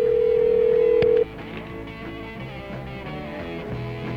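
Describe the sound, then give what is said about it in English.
A steady telephone tone sounds loudly for just over a second, then cuts off, leaving a muffled, busy background hum as a call to a state patrol in Montana connects. “Yeah, we're going to call another state patrol in Montana. Try to get a patrolman on the phone here.”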